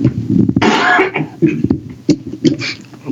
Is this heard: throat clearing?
yes